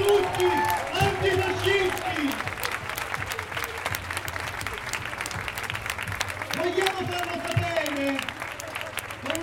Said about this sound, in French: On sent, on a les petits frissons là quand les gens applaudissent parce que c'est les moments où voilà, on sent de l'espoir qui vient et voilà, quand, au mot comme la lutte antifasciste, là les gens résonnent ensemble.